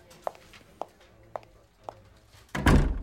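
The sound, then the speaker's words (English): Four evenly spaced soft thumps, like footsteps crossing a room, are followed by a door being pushed shut with a loud, heavy closing thud and a brief rattle. “Would you close the door?”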